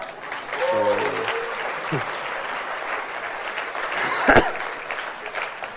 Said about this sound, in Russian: Да-да, это вам аплодисменты, спасибо.